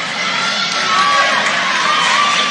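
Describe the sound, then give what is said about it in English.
A loud, sustained cheer from St. Henry fans at a volleyball match against Fort Recovery, after a kill by a St. Henry middle hitter, fills the whole stretch: a dense roar of many voices with shrill shouts rising above it, steady in volume without pause. “And you could hear a big cheer by the St. Henry fans on that blast.”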